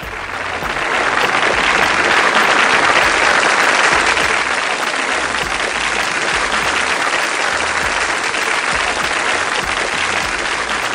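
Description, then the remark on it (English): Sustained applause from a crowd, dense rapid hand claps blending into a steady loud wash that swells in quickly and holds evenly for about eleven seconds, with no voices. “Let me find a hand clap again. Here we go. The hand claps.”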